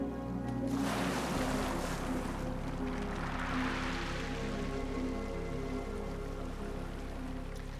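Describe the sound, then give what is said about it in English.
Continuous rushing surf on open water under a beating sun, with foam and plastic in the surf; a broad hiss that swells and recedes, with a low steady engine-like drone underneath. No voices are heard. “The sun beats down on a surf of foam and plastic.”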